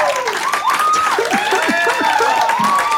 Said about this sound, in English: Holy shit, there's quite a bit left of this video. It's like another, is it just a minute of clapping? Skip ahead. Yeah, it's just a minute of people like, man, this is awesome.